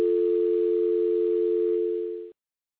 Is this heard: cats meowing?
no